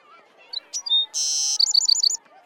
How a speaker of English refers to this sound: Wow! My bird can fly. Come back. Dot, can you help me? Sure, Ted. Come here, little bird.